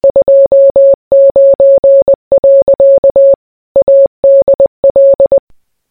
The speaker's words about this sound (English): Well, that was a bit strange. Might have to keep an eye out to see what that Morse code means.